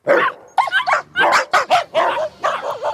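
A dog barks repeatedly in quick, uneven bursts, with roughly seven or eight sharp yaps and whiny barks, filling the whole stretch without any talking.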